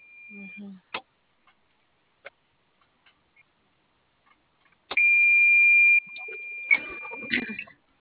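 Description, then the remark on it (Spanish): A sustained, steady electronic beep tone from a truck's unit sounds loudly for about a second, followed by shorter repeated beeps amid scattered clicks and a little background noise. “No, ese pitido me... Oilo.”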